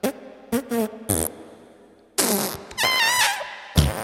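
A rapid series of loud fart noises, some short and sputtering, others longer and buzzy with a wavering pitch, likely voiced imitations, bursting out one after another with brief gaps.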